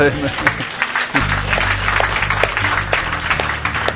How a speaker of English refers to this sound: Like … says in his songs, if you're going to give the Lord a hand clap, give him a good one.